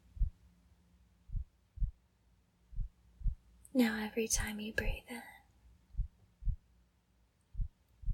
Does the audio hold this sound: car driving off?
no